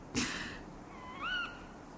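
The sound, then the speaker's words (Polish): An owl gives a single short, whistled call that rises and falls, moderately faint against a quiet background before nightfall, after a brief sharp noise at the start. “Słyszałaś? No. To ci nocny Marek.”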